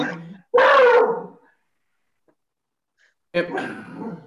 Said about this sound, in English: Just on cue, the dog starts to bark.